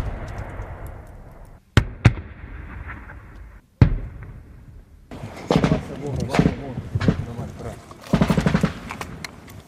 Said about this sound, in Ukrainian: Що, стріляють по нам з пулеметів, з автоматів. Непонятно зачем і непонятно чого.